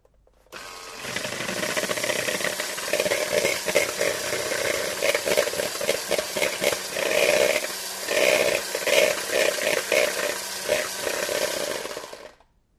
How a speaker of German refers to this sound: Dieses Gerät verwendet man beim Kuchenbacken. Ein Mixer.